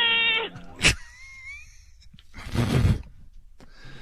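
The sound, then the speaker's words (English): A person mimics the yowl a cat makes when the hair is pulled off its back: a brief, strained harmonic wail, followed by a sharp click and a long breathy, hissing exhale, moderately loud. “What's the sound that cat makes when you pull the hair off from the back?”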